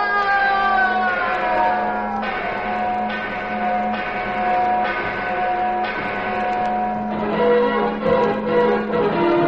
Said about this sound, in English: And, as the legend had predicted, the mission bell at San Linda rang out, for the treasure was in the bell tower.